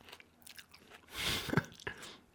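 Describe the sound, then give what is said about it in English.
Wet chewing and biting on a juicy plum, with soft squishy smacks and a louder crunchy burst in the middle, fairly quiet overall and with no talking. “Sorry if you can hear me eating. I'm eating a plum.”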